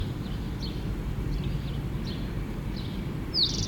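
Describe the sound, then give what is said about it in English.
A bird in a pine, on its west side, at 8:31, sings a series of faint, high chirps about once a second over a steady low rumble, ending with a louder, clearer downward-sliding whistle. “Rufus started talking, singing.”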